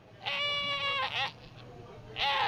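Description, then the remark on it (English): Fancy Pants, a goat from Circle K Farm in East Hampton and mascot for the Hartford Yard Goats baseball team, bleats loudly at the new ballpark's opening night: one long wavering bleat followed by a shorter second cry after a brief pause, with faint background noise underneath. “That's Fancy Pants, a goat from Circle K Farm in East Hampton and a mascot for the team.”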